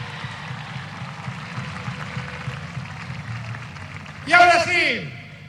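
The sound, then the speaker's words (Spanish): Steady audience applause in José C. Paz for Mario, a dense crackling patter that keeps going for several seconds, joined near the end by loud cheering voices rising over the clapping. “¡Aplauso inmenso para Mario!”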